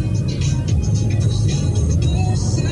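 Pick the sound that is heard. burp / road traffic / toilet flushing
road traffic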